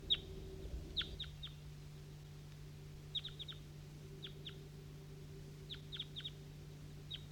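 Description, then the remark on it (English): Two or three wild birds calling from the top of a maple tree in short, high chirps, often in quick pairs or triplets, repeating every second or two over a steady low hum. The calls are moderately loud and no one speaks. “That's a wild bird now responding. A couple of them. A couple of wild birds.”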